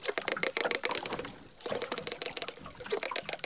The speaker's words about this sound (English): But now they've caught dolphins singing together too. And these animals are in sync at 600 beats a minute. The researchers sent us the dolphin sounds that they recorded. Here is one dolphin singing alone. And here are the dolphins singing together.